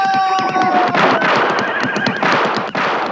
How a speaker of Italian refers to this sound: Al galoppo, cavallo! Via come il vento!